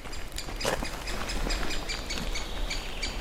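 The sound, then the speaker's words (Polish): Busy, repetitive high-pitched chattering calls from several great spotted woodpecker chicks begging for food, a continuous chorus heard from afar over steady outdoor background noise. “Tak, słychać czkanie, to jest wołanie o jedzenie.”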